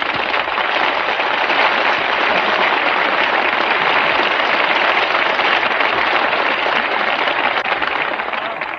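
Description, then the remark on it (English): A steady, loud wash of crowd applause greeting a singer on the radio show Command Performance, many hands clapping at once, sustained without a break for several seconds and no voices standing out. “You applaud every time she takes off her coat.”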